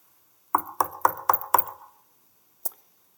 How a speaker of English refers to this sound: The door to his lodgings knocks. And there stands a man called Guillaume Farel.